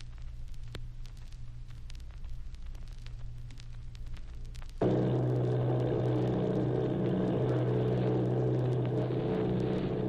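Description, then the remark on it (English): Army bombing plane engines, one of 8 bombers, drone steadily off Bayonne, New Jersey, starting as a faint, static-laden hum and swelling abruptly about halfway through into a louder, fuller, continuous roar. No one speaks. “Army bombing plane V-843 off Bayonne, New Jersey.”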